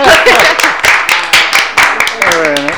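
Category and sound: human body sound, hand clapping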